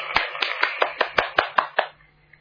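About nine sharp, crisp hand claps in a steady, even rhythm, like a small round of applause welcoming Zhang Dashuai, ending abruptly into quiet. No voices are heard.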